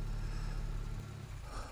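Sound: car engine idling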